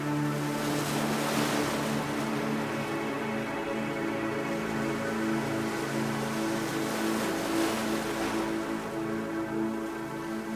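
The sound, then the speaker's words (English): Ocean waves wash steadily onto the shore in a continuous hiss, swelling louder twice as surges roll in, with a low sustained hum underneath and no voices. “The sound and feel of the water opens and clears your mind as you breathe in nourishment for your soul.”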